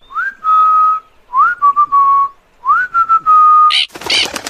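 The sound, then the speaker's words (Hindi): A person whistles three times in a steady rhythm to call a parrot named Mittu down from a mango tree, each clear whistle sliding up then holding a long note, followed by a brief harsh, noisy burst at the end. “अरे वाह, तुम्हारी सीटी सुनते ही मिट्ठू झट से नीचे उतर आया।”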